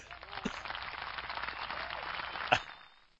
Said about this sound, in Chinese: 台北出来了，大家看一下，中华台北出来有几个代表？对，鼓掌！ 哎，你那音效呢？ 音效，音效，音效，音效。